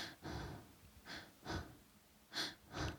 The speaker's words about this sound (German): Ich würde mich dann einfach ganz, ganz, auch ganz flach atmen nur.